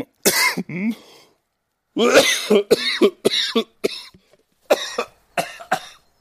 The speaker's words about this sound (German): Entschuldigung, Goethe hat nie gehustet.